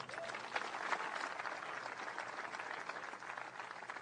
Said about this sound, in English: How about one more round of applause for the Doby family?